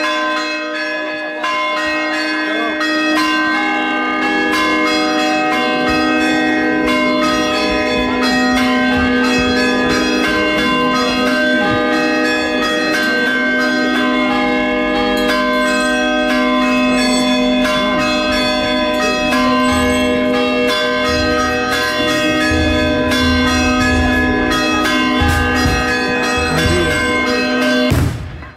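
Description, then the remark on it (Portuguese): Church bells of the church in Rio Caldo peal loudly and continuously on a Sunday for nearly half a minute, their overlapping tones ringing out and sustaining into one another, with no voices heard. “Vamos ouvir só o toque dos sinos da Igreja de Rio Caldo.”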